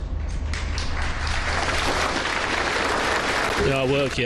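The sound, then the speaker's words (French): A large crowd gathered on a town square claps steadily outdoors at the end of a minute of silence, a dense, sustained patter of applause over a low rumbling hum, with a voice briefly speaking near the end. “Et au son des cloches de l'église, elles ont entamé une minute de silence, seulement perturbée par des bruits d'hélicoptères, qui s'est terminée par des applaudissements, traduisant ainsi l'émotion de toute une ville.”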